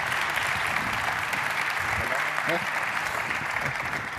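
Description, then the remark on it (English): An audience applauds steadily for speakers being introduced before their talk, a dense, even wash of many hands clapping at constant loudness throughout, with a few faint voices briefly audible underneath. “and I would like you to give them a warm round of applause.”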